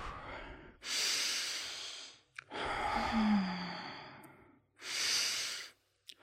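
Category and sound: human body sound, slow deep breathing exercise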